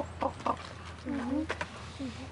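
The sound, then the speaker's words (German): A raven sings with a short series of throaty, gurgling calls and croaks, some clipped and one drawn out, over a steady low background hum. “Habt ihr das gehört jetzt? Das ist.”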